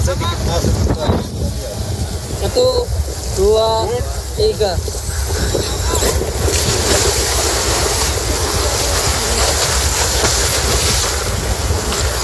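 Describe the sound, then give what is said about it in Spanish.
A divers' motorboat pushes out to sea in Indonesia during a search operation, its engine a steady loud roar mixed with rushing spray and wind, while voices briefly call out early on. “Y este es el sonido precisamente de una de las incursiones en el mar de los buzos.”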